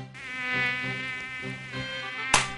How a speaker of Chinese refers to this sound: 天哪，最近天气变好热，蚊子也变很多，一注意手脚就被蚊子咬了。